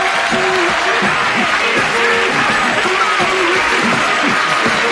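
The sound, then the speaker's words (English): A crowd applauds loudly and steadily for the crew from K&B Construction Company of Bay City, there to help with a stucco demonstration; dense clapping fills the whole stretch, with scattered voices and cheers mixed into the ovation. “I want a big round of applause”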